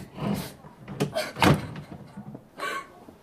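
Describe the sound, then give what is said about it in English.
A door is handled and pulled open: a few sharp knocks and clunks of the latch and frame, with a louder thud in the middle and a final rattle. “Come on, Pip, open the door.”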